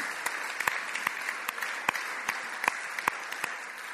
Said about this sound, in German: Merci vielmals, die haben einen kräftigen Applaus verdient.